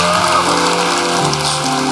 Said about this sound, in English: Come on, give them a good hand clap.